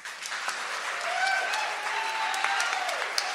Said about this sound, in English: I am one of many, many, many dozens of people who make this event possible, and I would really appreciate it if you all joined me in giving a round of applause to our hardworking crew.